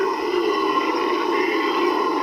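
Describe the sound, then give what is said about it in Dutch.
Howler monkeys in the Pantanal roar in a loud, continuous droning chorus, a dense, rumbling wall of sound that holds steady without pause, with no talking over it. “Precies, dit zijn brulapen. En met hun brulsessies laten ze aan andere brulapen weten dat dit hun territorium is.”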